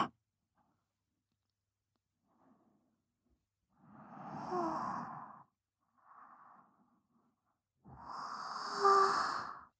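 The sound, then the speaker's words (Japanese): A soft yawn: a long, breathy, voiced exhale, a brief quieter one, then a second drawn-out yawn that rises slightly louder. No one speaks. “ご主人様にあくびを聞かせてしまうなんて。”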